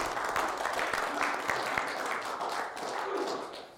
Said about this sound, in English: Let's give Ed a round of applause.